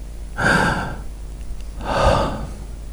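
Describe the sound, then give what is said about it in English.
Two heavy, labored breaths that are growing weaker, each drawn out for about half a second and fairly loud, with a short quiet pause between them and no talking. “My breath is getting weaker.”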